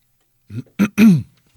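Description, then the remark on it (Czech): A person clears their throat in three quick, rough bursts, the last one longest and most voiced, with silence around them. “Tak, já se na to odkašlu.”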